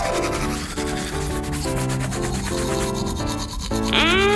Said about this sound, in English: We brushed a lot of gunk out of your mouth.